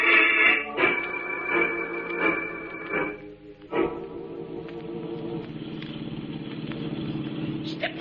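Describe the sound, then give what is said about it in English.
The engine of an old jalopy roars loudly as it is driven flat out, pulling hard, dips briefly midway, then surges back into a steady, rattling drone as it keeps speeding along. No one speaks. “I'm giving her all she got. This jalopy ain't got wings, you know.”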